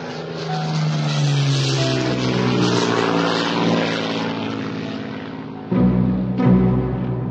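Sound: propeller airplane engine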